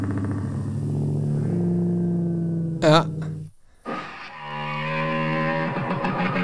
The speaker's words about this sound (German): Ja, das ist jetzt Motorrad. Das hört sich wie ein Motorrad an, ne? Das ist auch ein Motorrad. Aber, ja. Also da bist du wem auf den Leim gegangen. Das war eindeutig ein Motorrad, zwischendurch eine Kuh.